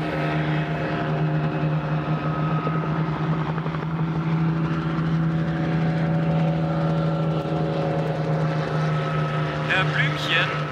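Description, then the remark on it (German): A helicopter drones loudly and steadily overhead as it climbs higher and higher, an elephant hanging beneath it on a long rope; its rotor and engine form a constant, throbbing hum for the full stretch, with no other sounds breaking through. “an einem langen Seil unter dem Hubschrauber. Der schraubt sich immer höher und höher und höher.”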